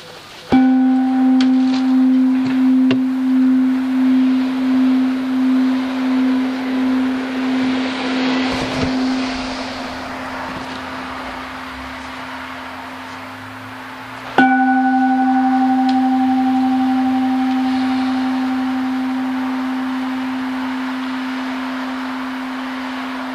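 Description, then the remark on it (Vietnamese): A deep Buddhist temple bell is struck before a sermon, one of three strikes, and left to ring, its low hum pulsing slowly as it fades, then struck again with a sustained, gradually decaying tone. No one speaks. “Quý vị cố gắng lắng tâm, nhắm mắt lại và lắng nghe ba tiếng chuông cho thật kỹ.”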